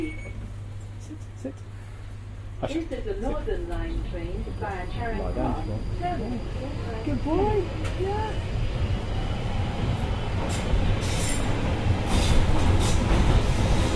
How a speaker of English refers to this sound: This is the Northern Line train by Charing Cross.